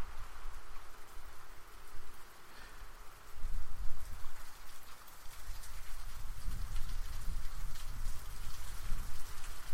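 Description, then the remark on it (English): Steady rain falls and patters on surfaces, a dense continuous hiss with low rumbling gusts swelling partway through. No one speaks. “Alright, so I'm still moving on with the podcast despite it raining.”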